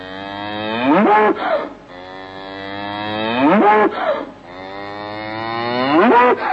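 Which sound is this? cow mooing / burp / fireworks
cow mooing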